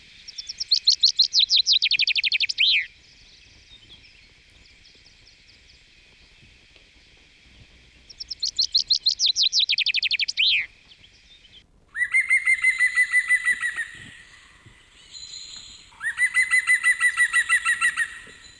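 A chaffinch sings two bright, descending trilled phrases with a flourish at the end, followed by a rapid laughing series of green woodpecker calls, all clear with no talking.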